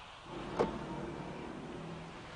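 A car's electric window hums steadily as it moves, with a brief click near the start and a low motor whine running throughout, with no one talking.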